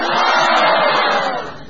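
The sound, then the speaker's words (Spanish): A recorded sound effect of a crowd bursting into loud, sustained shouts of surprise, many voices blending into one dense roar that holds steady and then eases off slightly near the end. “A ver. Gritos de sorpresa.”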